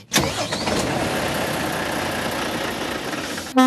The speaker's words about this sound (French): Avec le moteur et le klaxon du camion, voilà pour ce micro ouvert